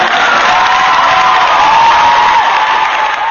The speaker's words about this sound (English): because you're a first-time caller, and we got to give you some applause for that.